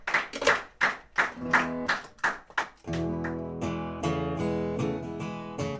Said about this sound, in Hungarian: Nem kellett volna abba hagyni a tapsot. Milyen ritmusan lett. És így kéne tapsot.